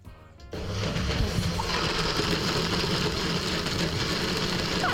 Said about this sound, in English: All right, the blender is ready to go.